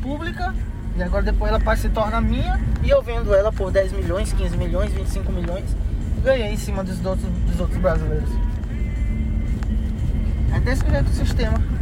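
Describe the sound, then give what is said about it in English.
A truck engine rumbles low and steady throughout, heard from the back of a convoy truck as it drives over rough, muddy ground in the Brazilian Amazon, with several agents talking loudly over the noise. “In the back of the truck I was in, the agents were commiserating.”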